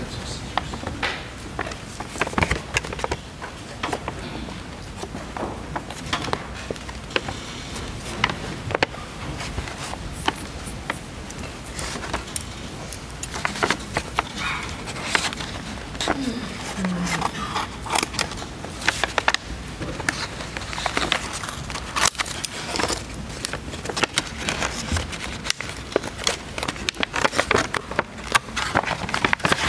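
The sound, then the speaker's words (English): Irregular snips and crinkling rustles as scissors cut open an evidence package holding an unfired 12-gauge shot shell submitted with a camouflage Benelli shotgun, with sharp clicks and handling noises continuing throughout and faint voices in the background. “Could you you go ahead and open that package for us, please?”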